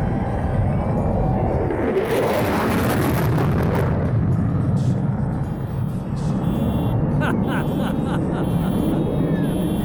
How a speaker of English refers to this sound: That second clip of the B1 passing because it set off all the car alarms in the parking lot. That's my favorite.